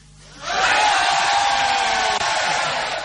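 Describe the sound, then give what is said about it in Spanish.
An audience at a show at the Sala Galileo Galilei in Madrid lets out a sustained, loud collective yell on cue that bursts in after a brief quiet moment and holds steady for a few seconds, a dense roar of many voices together. “Vamos a tratar de concentrarnos y para eso propongo hacer un grito general.”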